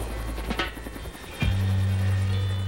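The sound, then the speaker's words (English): A helicopter's engine drones loudly with a steady rhythmic rotor chop, then its pitch jumps and the roar swells as it powers up to lift off. It is the presidential helicopter carrying Richard Nixon off the White House lawn after his resignation in 1974. “The presidential helicopter carries Nixon off the White House lawn.”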